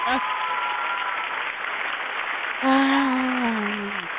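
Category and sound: crowd, crowd cheering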